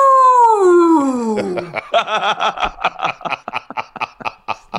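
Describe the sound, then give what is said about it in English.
A voice imitates a long, drawn-out boo, a loud sustained tone sliding downward in pitch for nearly two seconds, followed by choppy, rhythmic bursts of laughter. “I'm wearing a poncho, you know, wind whipping everywhere, and I'm going, boo!”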